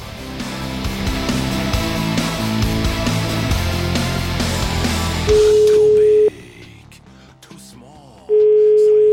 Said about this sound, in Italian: Proviamo a chiamare, possedendo noi il numero di telefono, questo Matteo La Macchia.